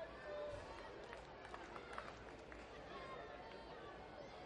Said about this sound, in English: Listen to this crowd.